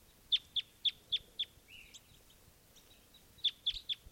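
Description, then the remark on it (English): A male bird's flight song: a quick run of five sharp, high chirps, a softer trilling warble, then three more bright chirps, clear over a faint low background hiss. “Flight song of a male.”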